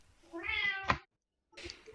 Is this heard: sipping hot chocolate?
no